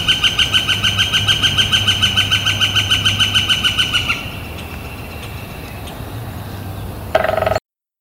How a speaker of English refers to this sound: and that was the sound of a male northern flicker drumming. That is a mating call. The northern flickers are year-round residents in the Pacific Northwest, but their mating drumming begins in the late winter and continues through the spring.